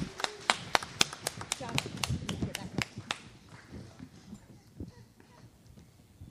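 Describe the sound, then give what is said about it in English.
Scattered clapping from a small church audience applauding the puppet ministry before the children's moment, sharp individual claps rattling off for about three seconds before thinning out to a few stray claps, with faint voices murmuring underneath. “And let's give our puppet ministry a big round of applause.”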